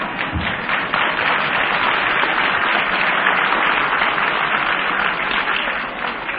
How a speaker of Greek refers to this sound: Ότα χειροκροτήματά σας, ότα χειροκροτήματά σας με ενθουσιάζουν εμένα τον καινόδοξο και περήφανο άνθρωπο. Αλλά πολύ περισσότερο θα με ενθουσιάσουν εάν αυτά τα χειροκροτήματα γίνουν έτσι και μπουν στις τσέπες.